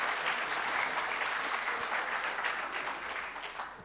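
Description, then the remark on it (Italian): An audience applauds steadily to welcome writer Carmen Pellegrino, a dense wash of many hands clapping at an even level throughout, easing off slightly toward the end. No one speaks. “Un applauso, benvenuto.”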